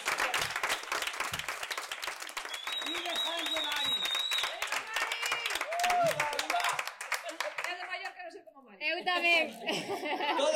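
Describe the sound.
A crowd breaks into sustained applause, dense steady clapping with scattered laughs and cheers mixed in, fading briefly near the end before voices and laughter return.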